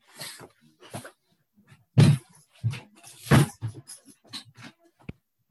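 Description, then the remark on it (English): A door is pushed shut: several dull thumps and rustling bumps, then a short, sharp latch click near the end, with no one speaking. “I'm going to just close the door just a second.”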